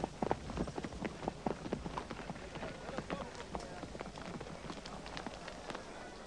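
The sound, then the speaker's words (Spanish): A horse's hooves clip-clop in a quick, steady rhythm, fairly loud, as its rider urges it on, with a run of sharp repeated impacts over a noisy, hissing background. “Cuida mi caballo hasta que vuelva, por favor.”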